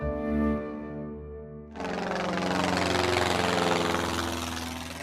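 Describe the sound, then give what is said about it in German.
An airplane engine, the plane the Sandmännchen arrives in, hums with a steady, low droning tone, then abruptly surges into a loud, broad roar that holds steady and fades slightly by the end. No voices. “Mit dem Flugzeug.”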